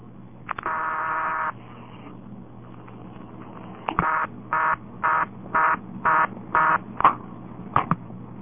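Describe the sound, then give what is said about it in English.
A telephone dial is turned and released as a number is dialed again, slowed to try to get the right dialing speed, with a short buzzy tone, sharp clicks, then a steady run of about six evenly spaced buzzing pulses and a final click, fairly loud, no voices. “Let me dial it once more and try to slow it down just enough to get it at the right speed.”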